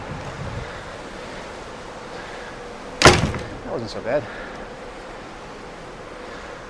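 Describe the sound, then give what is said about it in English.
A steady outdoor roar of wind and ocean waves on a ship's open deck, broken by one sharp, loud bang of a heavy door, followed by a brief spoken remark over the rushing air. “Warning, please take care when opening this door, as strong winds may be experienced on the open deck.”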